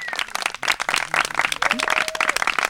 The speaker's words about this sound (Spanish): Por favor, denle un fuerte aplauso.